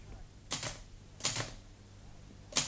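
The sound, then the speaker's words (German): A few sharp typewriter keystrokes land in slow, irregular succession, roughly three clusters of clacks over a faint low background hum. “Sitzt stundenlang vor seiner Schreibmaschine, freut sich wie ein Kind, dass er die einzelnen Tasten herunterdrücken kann und dann die Buchstaben auf dem Papier erscheinen.”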